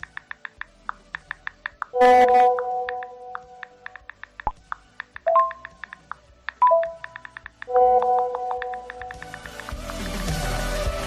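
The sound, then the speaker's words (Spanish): Steady rapid taps of a mobile phone keyboard, broken by several short bright WhatsApp chat-message tones, with a burst of hissy noise near the end; no one speaks. “Sí, seguramente estarás pensando en un teléfono móvil tecleando y en concreto en la aplicación de WhatsApp.”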